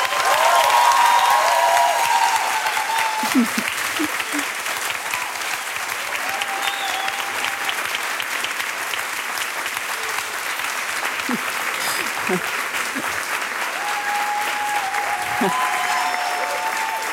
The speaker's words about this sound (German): Und jetzt möchte ich nochmal einen richtig fetten Applaus für Mohammed Amjahid hören.